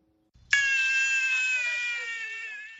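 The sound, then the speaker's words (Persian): A hungry baby in Afghanistan, crying for milk, lets out a single long, strained wail that starts abruptly after a soft rustle, holding a high, tense pitch and sagging slightly as it trails on. “کودک گرسنه که برای شیر گریه می کند.”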